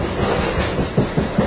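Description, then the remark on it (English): A freight train of well over 100 cars, loaded with a dry, top-loaded material, rolls steadily past, its cars clacking over the rail joints in a regular rhythm of heavy thumps over a dense, continuous rumble, loud, the railroad ties flexing in the ground under the weight. “Hey, look at the railroad ties, the way they're flexing in the ground.”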